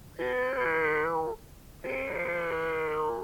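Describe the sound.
A human voice imitates a cat meowing cautiously, giving two drawn-out, wavering meows of about a second each, separated by a short pause, with a nasal, tonal quality and no other talk.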